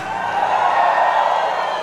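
A crowd at a live modão (Brazilian country music) show, recorded for a CD and DVD at a Boteco, shouts and cheers together in a dense, sustained roar of many voices that holds steady at a fairly loud level for the full two seconds, with no single voice standing out.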